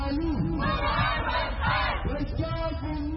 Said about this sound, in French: Ils sont quelques dizaines dans le quartier de Bari, au nord de Khartoum, à crier leur frustration. Ils réclament que les militaires libèrent le Premier ministre Abdallah Hamdok et réinstaurent immédiatement un gouvernement civil.